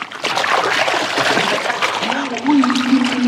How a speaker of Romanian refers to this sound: Acum ia plasa asta pe care ți-o dau, da? Rotește-o de 3 ori prin văzduh, apoi arunc-o în apă.